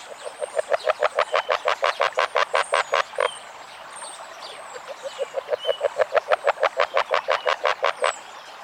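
An agile frog calls in two long bursts of rapid, evenly spaced clucking notes that speed up and grow louder, separated by a brief pause, clear with no talking.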